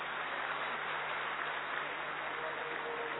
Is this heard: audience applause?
yes